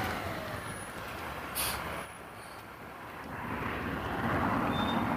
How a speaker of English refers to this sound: I'm waiting to see what this trash truck is going to do.